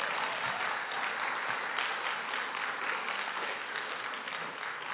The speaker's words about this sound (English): And so we want to congratulate them and thank you for showing the love of Christ to us as Highlands Baptist Church. Let me pray for you. Yeah, you can clap again.